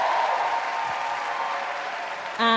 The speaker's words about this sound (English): Clap it up for Shanoa. Give it up.